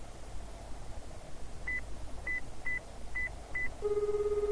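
Mobile phone dialing tones as someone takes out a mobile phone and calls up a phone number: five short, evenly pitched beeps at slightly uneven intervals, then a sustained tone begins at the end. Fairly quiet over a soft background hiss, with no one talking.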